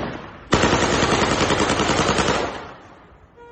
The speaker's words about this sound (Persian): این ویدیو را هم خبرگزاری فارس منتشر کرده. به نشانه وجود افراد مسلح در ایزه، شخصی با لباس بختیاری تیراندازی هوایی می‌کند.